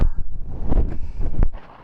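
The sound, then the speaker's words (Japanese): Loud, rough crackling of an ear pick scraping inside the ear just in front of the eardrum as it is moved slightly, a run of gritty rumbling bursts with a few sharper clicks, ending in a quieter fade. No one speaks. “バリバリ大きな音がして怖いね。”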